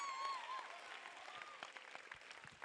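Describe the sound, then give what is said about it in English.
An audience claps steadily throughout after preaching, a dense wash of many hands, with faint crowd voices and a brief high tone mixed in at the start. “I don't know why you are not clapping.”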